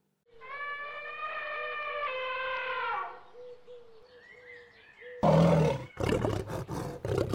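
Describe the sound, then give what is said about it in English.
A lion lets out a long, loud roar lasting a few seconds, then after a short pause comes a burst of rough, growling, forceful roars. “Look, a lion.”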